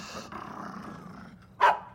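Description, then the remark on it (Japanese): A dog, Taro, growls low and steadily toward the far end of a path into a mountain forest. The rumble continues for most of the moment before breaking into a sharp, louder snarl or bark near the end. “突然太郎が道の奥に向かってうなり声を上げました。”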